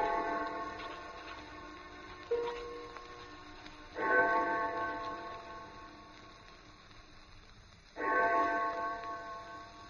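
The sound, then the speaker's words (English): The clock of St. Jude's church strikes slowly in the distance at 4 o'clock, each deep, ringing toll hanging and fading before the next arrives about four seconds later, with no voices present. “I had no idea how long I worked until I heard the clock of St. Jude's in the distance.”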